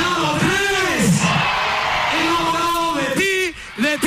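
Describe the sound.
An audience cheers and whoops loudly to welcome the performance of a Chilean band from the 1990s, with several voices yelling over a steady wash of crowd noise that holds for a few seconds before briefly dipping near the end.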